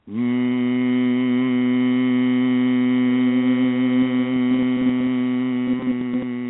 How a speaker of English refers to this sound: Humming it out. Doesn't that feel wonderful?